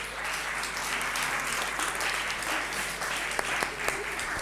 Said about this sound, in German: So, ich denke, fühlt euch wohl. Wir geben einen Applaus und heißen willkommen.